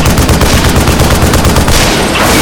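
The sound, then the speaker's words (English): Loud, rapid automatic gunfire from an MS-18 helicopter's machine gun rattles in a steady stream of sharp bursts over a deep, constant rumble, firing nonstop for a couple of seconds at a man lying prone behind a boulder. “The chopper's bullet path weaved in closer on the prone McCaughlin, who tried to hide behind a boulder no larger than he was.”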